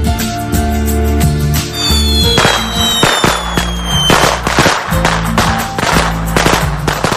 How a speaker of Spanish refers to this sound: Como bien pueden escuchar, el sentido literal de la palabra petardo es un artefacto explosivo, es decir, un petardo es un artefacto explosivo de poca potencia que suele estallar provocando un gran estruendo.